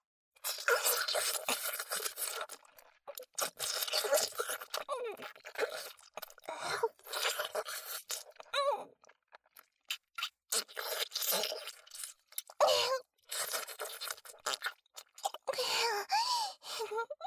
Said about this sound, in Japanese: 確か部長さんは強めの方がいいんですよね。だったら舐めるのも少し強く吸った方が気持ちいいのかな。いきますね。